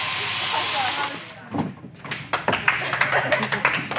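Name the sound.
round of applause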